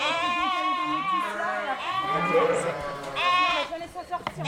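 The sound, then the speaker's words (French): A ewe bleats loudly and repeatedly at 11 pm, long wavering cries following one another across the whole stretch with barely a pause between them. “Bon bah, c'est une brebis qui se met à gueuler à 23h, on part pas à 23h, quand on partira quand elle aura fini.”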